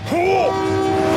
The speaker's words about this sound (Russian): Вот он, поезд едет, скорее плавь.